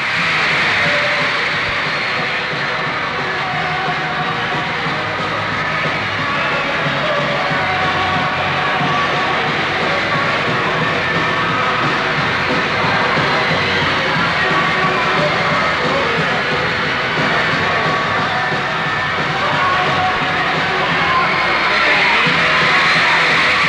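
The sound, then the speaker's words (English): A huge crowd at a band concert at Olympia Stadium in Detroit screams and shrieks nonstop in a dense, roaring wall of high-pitched voices, loud and sustained throughout, with the music buried beneath the din. “After the screams, the crying, the show of love and excitement, the audience filed out”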